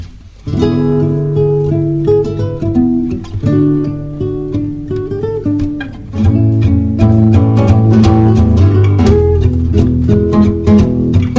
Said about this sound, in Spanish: Vamos a seguir escuchando nuestra hermosa música venezolana. Acá tenemos a los cantautores